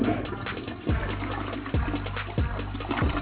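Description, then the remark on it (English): A toilet flushes with a steady rush of water, broken by several low, gurgling surges roughly every second. The sound is fairly loud and muffled, with no one speaking. “And for that, I think you deserve the raw flush for that shit.”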